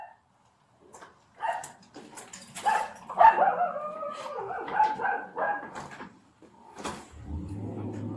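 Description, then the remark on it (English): A dog barks and whines in a few uneven bursts during a police welfare check in Albuquerque, mixed with clattering like a door or cupboard being handled, then a low rumbling noise near the end. “Hey, puppy.”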